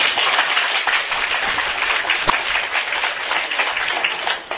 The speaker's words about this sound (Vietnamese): cho cái người con chim này một tràng pháo tay.